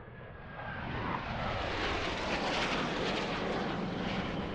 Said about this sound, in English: At 2 a.m. on Thursday the 26th of March, Arab coalition fighter planes suddenly cut through the Sana'a sky and war became a reality.